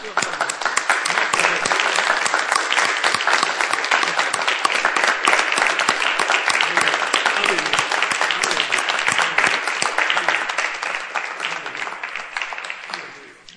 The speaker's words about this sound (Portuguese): Dá vontade de aplaudir a Jesus, né? Por que não vamos fazer?